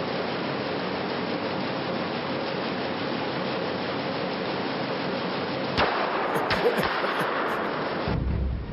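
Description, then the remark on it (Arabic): A loud, steady roar of a large fire spreading through a factory rushes on without a break, with a few sharp cracks and pops bursting through near the end. No voices are heard. “لقد احترق المعمل! ساعدوني! تعالوا! تعالوا! النيران تنتشر!”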